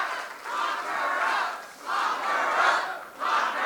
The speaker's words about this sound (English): State Representative Michelle Presnell and Congressman Mark Meadows warmed up the crowd, throwing out plenty of familiar crowd pleasers, eliciting this refrain from the audience.